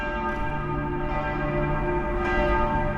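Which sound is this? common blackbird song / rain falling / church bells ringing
church bells ringing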